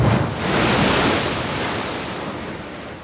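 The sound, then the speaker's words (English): Ocean surf at night rushes in a broad, steady wash of noise, swelling early and then slowly easing off as the wave recedes, with no voices present. “the two young boys had never been in the ocean before, and in the pitch darkness, the sea could manifest as a ferocious and ominous beast to a pair of young and weary travelers.”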